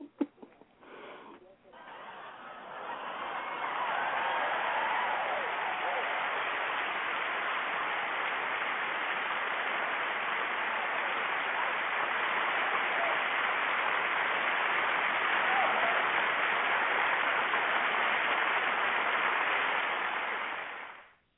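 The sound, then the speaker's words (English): A crowd breaks into sustained applause after a performer's piece, many hands clapping in a dense, steady wash for about eighteen seconds before it cuts off, after a few brief sounds at the start. “And I got a clap.”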